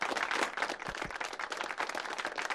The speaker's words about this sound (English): How are we clapping? I have no idea.